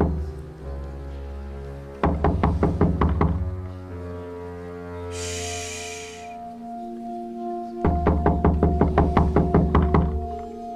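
Two bursts of rapid, insistent knocking on a door, several quick raps each, separated by a pause, with a low sustained droning tone underneath and no talking.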